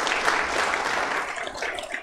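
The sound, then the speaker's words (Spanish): An audience applauds the Lord together in thanksgiving, a dense, steady wash of many hands clapping at once, sustained and fairly loud throughout without any voices standing out. “Dele un fuerte aplauso al Señor en acción de gracia.”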